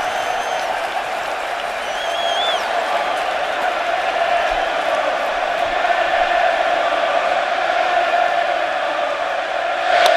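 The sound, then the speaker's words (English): A big, standing-room-only crowd at a baseball game in Pittsburgh roars steadily for the full stretch, a dense wash of chanting, cheering and scattered whistles aimed at pitcher Johnny Cueto, swelling slightly louder near the end. “Well, the standing room only crowd trying to get under Johnny Cueto's skin, and they might be.”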